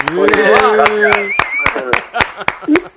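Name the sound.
small group applauding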